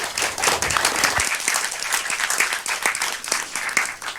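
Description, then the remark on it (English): An audience applauds steadily to welcome a speaker at a talk about building Go appliances for the Raspberry Pi, a dense wash of many hands clapping with sharp individual claps popping out, sustained at an even, fairly loud level throughout without any talking. “And a warm applause for him.”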